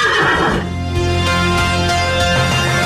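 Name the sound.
horse neighing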